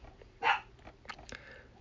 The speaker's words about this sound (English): And my doggy's going to now talk to us.